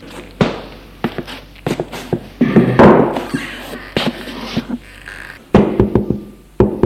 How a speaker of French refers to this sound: On a frappé à la porte.